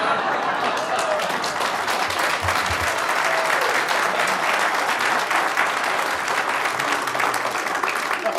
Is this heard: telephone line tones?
no